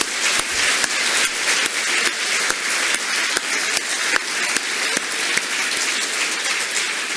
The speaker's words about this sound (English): Can we have another round of applause for our staff?